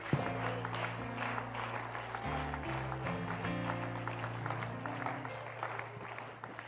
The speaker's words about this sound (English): Would you clap your hands and give God wonderful, great praise here tonight?